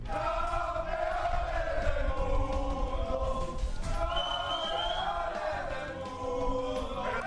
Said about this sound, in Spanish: Eso es lo que gritaban los jugadores del equipo español.